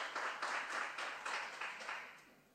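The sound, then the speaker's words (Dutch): A short burst of applause from a group after a speaker finishes their first-round contribution in a debate. It is a steady patter of many hands clapping at once that tapers off after about two seconds, with no one speaking over it. “Liever geen applaus.”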